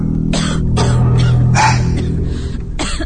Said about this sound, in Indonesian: terdengar lagi suara batuk itu. Kembali batuk itu terdengar berulang-ulang, jelas dari lantai bawah.